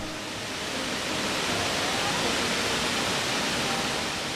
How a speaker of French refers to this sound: Le torrent bondit sans arrêt, tourbillonne sur les rochers.